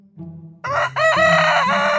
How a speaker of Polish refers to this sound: O! Ten dźwięk znam najlepiej, bo to dźwięk, który jest moim porannym budzikiem. To oczywiście kogut.